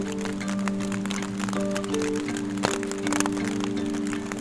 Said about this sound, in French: La pluie.